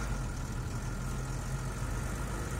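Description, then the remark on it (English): A lorry engine idles steadily, a continuous low rumble with a faint rhythmic throb and no other sounds or voices. “Look, there he is, in the lorry.”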